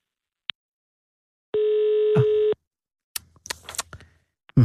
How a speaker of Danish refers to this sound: du sidder og ringer op.